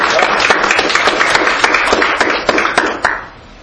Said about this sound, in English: Let's give you a good hand clap of praise tonight. Amen.